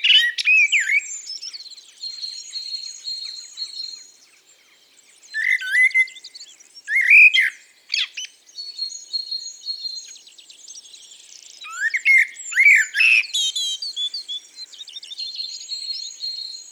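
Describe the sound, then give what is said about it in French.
Common blackbird song from a cherry tree in varied, warbling phrases separated by short pauses, with a fainter, distant great tit repeating thin notes in the pauses between the blackbird's phrases, near a village at dawn on 1 May. No voices, just the birds outdoors. “Et les premiers oiseaux qu'on entend ici, c'est ce merle noir dans un cerisier et une mésange charbonnière au loin.”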